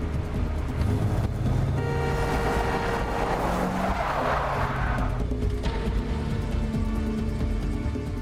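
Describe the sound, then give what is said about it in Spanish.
A car engine roars steadily while tires screech and skid in a long, loud burst as a car is forced off the road by another car; the screech swells midway and then fades back to engine rumble. No one speaks. “Le dijo a las autoridades que a menos de 1 kilómetro de su casa, un auto la sacó del camino.”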